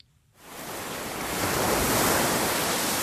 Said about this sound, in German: Pazifikwellen schlagen an den Strand von Tomakomai, eine Stadt auf Japans Nordinsel Hokkaido.